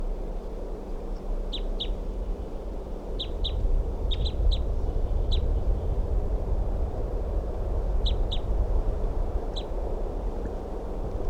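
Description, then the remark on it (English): A caged bird, number 327, gives short, high chirps, often in quick doubled notes, repeated at irregular intervals over a steady low rumble of background noise. “I think that's 327 calling there.”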